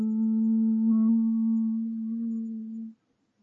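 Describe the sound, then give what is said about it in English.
A steady, low electronic hum from a small, round spaceship in a garden drones at one pitch for about three seconds, fairly loud, then cuts off abruptly into silence. No one speaks. “John and Mary looked at the spaceship. Now there was a humming noise.”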